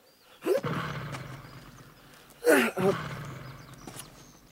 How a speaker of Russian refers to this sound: Чихнет пару раз и глохнет.